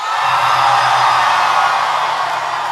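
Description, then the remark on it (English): A loud, sustained roar of a crowd screaming and whooping, many voices blending into one continuous wall of cheering that holds steady for a few seconds without a break. “Somebody scream.”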